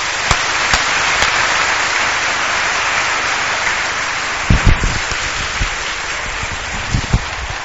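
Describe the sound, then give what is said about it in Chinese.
A large audience applauds steadily for several seconds to welcome a pastor who is about to preach at a church gathering, a dense, even wash of clapping with a few dull low thumps near the end and no voices. “我要掌声来欢迎他。”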